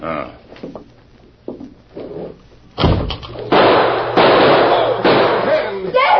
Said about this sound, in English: Must have caught a slug in my hand. You're not hurt. My bullet just knocked down your gun.